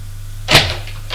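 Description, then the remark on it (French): A single brief knock on an apartment door, a short sharp burst standing out over a steady low hum, followed by quiet. “Il frappe à l'appartement de son frère.”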